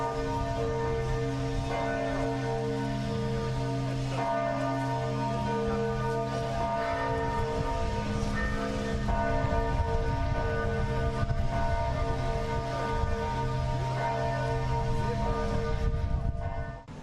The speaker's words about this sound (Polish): A rozpoczyna się to dzwonami. Tak, biła dzisiaj, biły dzwony w katedrze lwowskiej. Proszę posłuchać.